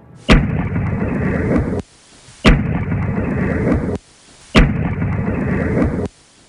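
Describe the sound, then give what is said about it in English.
A loud, deep boom of unknown cause, recorded by a doorbell camera in a town, plays three times in a row, each hitting with a sharp crack and trailing into roughly a second and a half of rumbling noise, separated by short gaps of quiet. “Now, this particular clip also shared recorded audio of one of these mysterious booms.”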